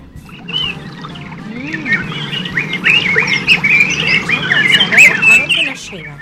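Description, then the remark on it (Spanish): A dense, lively chorus of many small birds chirping and twittering at once in very tall trees somewhere in Argentina, overlapping calls filling the air steadily and growing fuller, over a low rumbling background. “Hay pajaritos, ¿no? Montones.”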